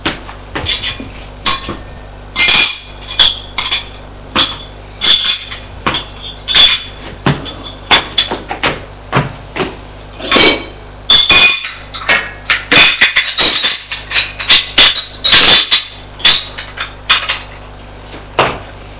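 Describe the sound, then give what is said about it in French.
Dishes and cutlery clink and clatter repeatedly as a table is cleared, with sharp metallic and ceramic knocks in an irregular rhythm, fairly loud, no voices. “Comme ils n'ont plus faim, ils débarrassent la table.”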